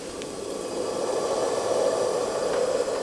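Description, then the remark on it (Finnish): A steady, continuous hiss of a gas camping stove flame heating boiling water, a broad roaring rush that stays even and moderately loud for the whole stretch, with no voices over it. “Nyt kun se vesi kiehuutellu, niin pitääkö tuon säädön kanssa olla jollain lailla hereillä vai saako se vaan porista tuo vesi kuinka kauan?”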